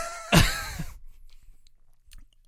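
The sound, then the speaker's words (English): A man takes a short, loud slurping sip lasting about half a second, with a wet, airy rush, followed by quiet and a faint click of a cup or lip. “As we hear him take a sip.”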